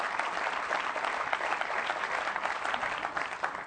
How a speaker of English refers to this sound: You're applauding for yourself, really.